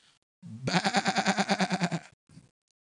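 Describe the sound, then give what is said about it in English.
A single long, wavering sheep bleat with a rapid trembling quaver, loud, followed by a short faint bleat-like trailing sound before silence. “why do I hear this bleating of the sheep in mine ears?”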